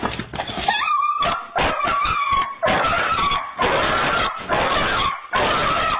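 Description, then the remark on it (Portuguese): A dog distressed by fireworks, having its tenth seizure, whimpers and yelps in rapid, uneven bursts, with a high, wavering whine running through, loud and continuous for several seconds with no talking. “Olha como é que ele fica depois. Só os ataques que dá nele.”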